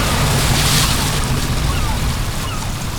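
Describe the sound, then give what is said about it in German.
A rented boat's engine rumbles low and steady over splashing water and wind as the helmsman abruptly throttles down, the wash easing off slightly toward the end as the boat slows and drifts slowly forward. “Er drosselte abrupt die Geschwindigkeit und trieb langsam auf sie zu.”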